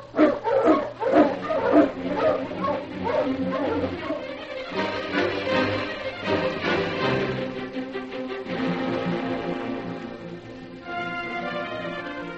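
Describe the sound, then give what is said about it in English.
A pack of sled dogs barks and yelps excitedly in overlapping bursts, loud, with a steady busy din throughout and no clear speech, as the dogs are got up to hit the trail to town. “Get the dogs up, King.”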